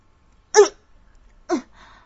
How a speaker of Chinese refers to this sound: 门口传来了两声咳嗽，女孩一惊，转过了头，却没看到人。